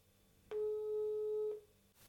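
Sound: telephone ringing tone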